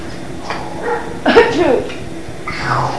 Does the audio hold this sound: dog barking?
yes